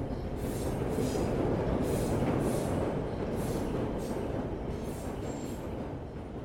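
A loud underground train rumbles steadily along the rails, a dense continuous roar with faint rhythmic hissing and rattling bursts recurring about every second, no voices.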